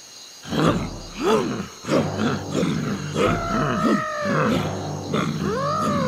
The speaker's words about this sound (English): Help! Help! Look at these elephants. They're very big. And they've got very big feet.